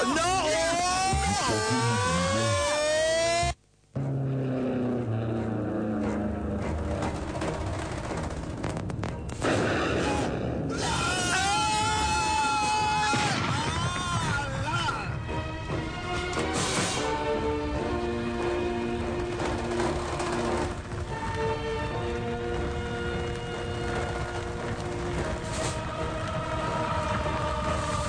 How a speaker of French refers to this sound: Et après cet accident terrible, alors que le feu dévore le camion-citerne, ainsi que les cadavres des deux chauffeurs,